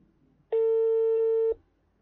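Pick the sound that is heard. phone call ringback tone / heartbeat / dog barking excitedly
phone call ringback tone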